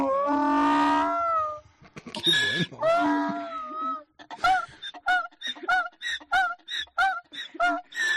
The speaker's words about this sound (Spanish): Después de mostrarte cómo es capaz de reír a carcajada limpia un pato, hoy te voy a enseñar todo lo contrario, cómo es capaz de llorar de alegría un burro.